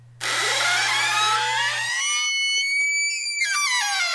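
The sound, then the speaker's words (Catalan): A refrigerator making a new noise lets out a long, loud creaking groan, a drawn-out squeal with shifting pitch lasting about four seconds, over a steady low hum that stops midway. No one speaks. “No, no estic obrint la porta del castell de Camelot, és el nou soroll de la meva nevera.”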